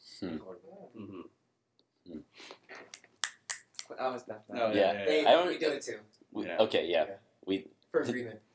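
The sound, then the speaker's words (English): A quick run of about five sharp finger snaps, made to show agreement instead of clapping, rings out in a brief pause between stretches of conversation, with voices talking before and after. “So it started off as an ironic thing, snapping when you agree with someone, and then it just took over my life.”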